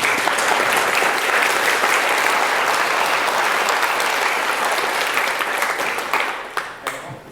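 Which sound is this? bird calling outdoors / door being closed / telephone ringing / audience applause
audience applause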